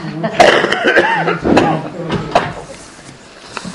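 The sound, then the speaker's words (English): A person coughs several times, short harsh bursts spaced about a second apart, with some raspy voiced throat sounds between them before trailing off into quiet. “You stop my cough, and I will speak up. My famous cough.”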